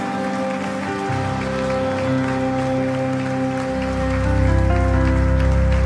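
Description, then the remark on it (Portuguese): An audience applauds the name of Jesus in a dense, steady wash of clapping over sustained low musical tones, the whole sound swelling a little louder toward the end. “Você pode aplaudir o nome de Jesus?”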